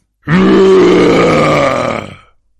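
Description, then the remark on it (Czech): A loud, deep bear roar erupts right behind a hunter who is creeping with a loaded flintlock toward a small cave hidden by a fallen tree. The roar bellows for about two seconds, rough and growling with a rising low pitch, then fades away. No one speaks. “Ale najednou se těsně za ním ozval ohlušující řev.”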